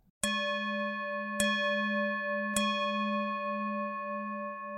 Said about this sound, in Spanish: La campana de atención plena es una herramienta que se utiliza en recintos budistas como una práctica de desarrollo de la atención al presente.